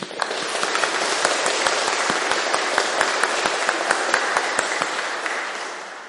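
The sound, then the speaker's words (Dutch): A church audience applauds steadily during a service for several seconds, many hands clapping in a dense, even patter that holds at a fairly loud level before tapering slightly at the end. No one speaks. “Ik wil even een applaus, want ze hebben heel veel werk te gaan verrichten.”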